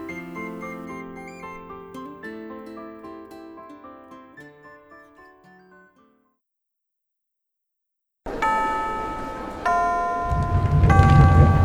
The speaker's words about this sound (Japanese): ほらチャイムだ、教室に戻れ。